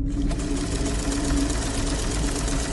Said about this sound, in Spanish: La máquina de coser seguía sonando.